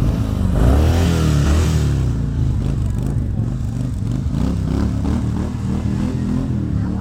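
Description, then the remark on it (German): A loud Harley-Davidson motorcycle engine revs repeatedly, its deep rumble rising and falling in bursts over about seven seconds, with a rough, lumpy idle between throttle blips. “So soll ein Motorrad klingen, dann klappt es auch mit dem Nachbarn.”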